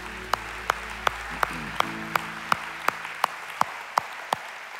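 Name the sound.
audience applauding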